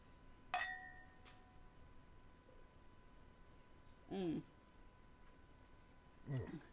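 wine glasses clinking

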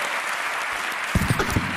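audience applause

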